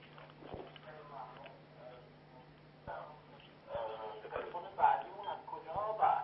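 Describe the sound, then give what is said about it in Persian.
Narrow, telephone-quality audio from a viewer in Kashan calling into a TV program carries the caller's own television sound in the background: muffled voices over a steady low hum, growing louder and busier in the second half, with occasional soft clicks. “صدای تلویزیون رو باید ببندید، شما خودتون به تلویزیون دقت نکنید، با تلفن با من صحبت کنید.”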